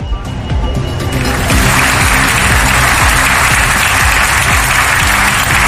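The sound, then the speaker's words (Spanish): Sustained, dense applause from a large audience at the Cervantes Prize ceremony, as the King and Queen of Spain present the award to Álvaro Pombo in the Paraninfo of the University of Alcalá de Henares on 23 April, a loud steady wash of many hands clapping with no individual voices standing out. “Los aplausos a Pombo.”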